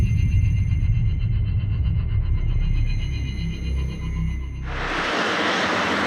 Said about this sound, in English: So as you can hear, I've just stepped off a plane.